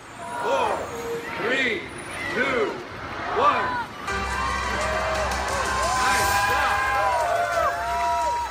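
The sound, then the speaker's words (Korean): A single voice announces the opening for a few seconds, then a crowd bursts into steady, dense cheering and shouting with rising whoops that carries on loudly to the end, at the ribbon-cutting opening ceremony of One World Trade Center in New York. “리본을 자르며 본격적으로 개장을 알리는 발표를 하자 사람들의 환호가 터져나왔습니다.”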